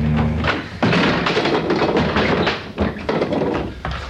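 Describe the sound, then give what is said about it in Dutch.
A shop door is shoved repeatedly against a chair wedged behind it, producing loud, irregular thuds and knocks over a few seconds, with no one speaking. “Ze heeft iets tegen die deur gezet.”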